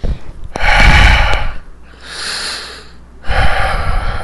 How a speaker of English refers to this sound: Sir, you got some breathing problems. This is breathing problems.